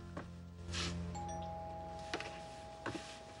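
A front-door doorbell is rung, its clear chime tone sustaining and slowly fading over a few seconds, with a few soft thuds and rustles around it and no one speaking.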